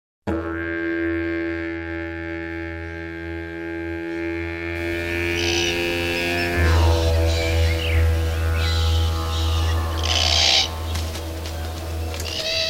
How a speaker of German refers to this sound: Gregor's Road, mitten auf Kangaroo Island. Bodennebel wabert durch den Busch. Das Krächzen und Kreischen eines Braunkopf-Raben-Kakadu-Paares ist zu hören.